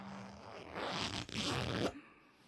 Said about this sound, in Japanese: ベルト外してチャック下ろして全部脱いじゃおうね。